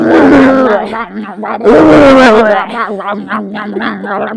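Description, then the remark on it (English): A voice imitates an animal growl, producing a long, loud, throaty rumble that rises into rougher roaring bursts and continues in rolling, gravelly pulses for about four seconds. “Yeah, but he growled into her clit.”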